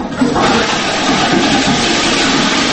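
household object, toilet being flushed

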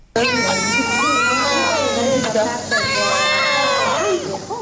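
human body sound, newborn twin babies crying

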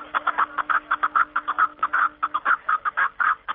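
bird, snowcock calling

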